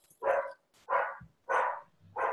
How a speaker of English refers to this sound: Gonna let the dog. Exactly. Let the dog bark.